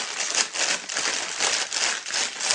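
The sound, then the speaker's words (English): A normal chip bag, not the compostable Sun Chips bag, crinkles steadily, a dense crackly rustle that swells in repeated bursts as it's handled, with no voices. “The sound of a normal chip bag.”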